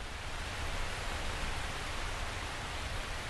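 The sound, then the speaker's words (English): Heavy rain pours down at an arboretum in a steady, dense hiss that fills the whole clip at an even, fairly loud level, with no voices and no breaks. “But as I stayed there and listened, the lawnmower began to move away and it started pouring down rain.”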